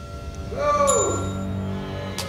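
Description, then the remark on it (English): A single bright ding as Jay strikes a reception desk service bell once, left to ring out slowly over a low background hum, with no one speaking. “Jay's ringing the bell on reception.”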